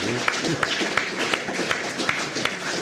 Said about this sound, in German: Jetzt erkläre doch, warum du geklatscht hast.